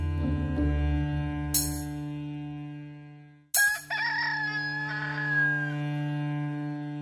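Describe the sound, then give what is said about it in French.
A rooster crows once, a long bright cock-a-doodle-doo that rises and trails off, over a steady low droning hum. “Et avant que le coq chante, tu m'auras renié trois fois.”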